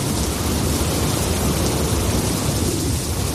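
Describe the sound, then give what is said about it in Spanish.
Heavy rain pours steadily, a dense hiss with no pauses, while a deep thunder rumble rolls underneath throughout, during a storm bringing rain, wind and snow across Spain. No voices are heard. “Y lluvia, viento y nieve, casi toda España está hoy en alerta por la borrasca Juan.”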